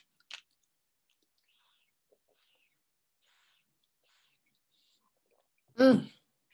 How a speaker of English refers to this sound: So I'll just wait a second for everything to catch up. So I'm just gonna have a drink of water for a minute.